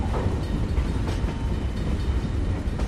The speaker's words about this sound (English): A train passes slowly by.